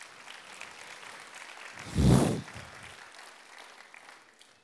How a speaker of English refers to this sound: Isn't that incredible? Come on, let's clap again.